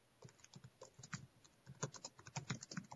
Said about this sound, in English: furiously typing away.